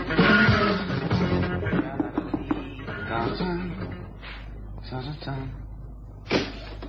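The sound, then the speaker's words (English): A door is opened with a burst of rattling and knocking at the start, then quieter shuffling and a few short thumps. Muffled voices can be heard in the background. “You should check before you open the door, son.”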